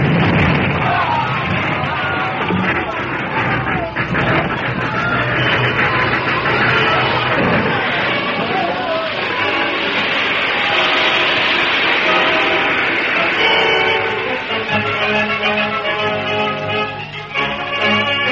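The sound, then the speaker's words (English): A loud, sustained roar of crashing and grinding metal as a train engine, braking too late, topples over the edge and crashes into a deep gorge below, with bursts and rumbling debris, and voices crying out over the din toward the end. “For a second, the engine seemed to hesitate. Then it toppled over, crashing into the gorge below.”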